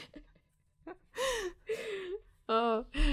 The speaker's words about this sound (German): Ach, ich muss kurz gähnen.